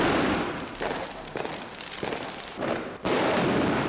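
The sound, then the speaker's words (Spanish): A loud, dense string of firecrackers bursting in rapid succession on New Year's Eve, crackling and popping almost continuously, with a brief lull before another volley erupts. “El de los petardos.”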